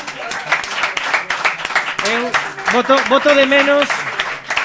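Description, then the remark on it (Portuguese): An audience breaks into steady applause for a couple, a dense patter of many hands clapping, with a few raised voices whooping and cheering over it partway through. “Un 6% de los americanos, esa parella de allí que merece un fuerte aplauso.”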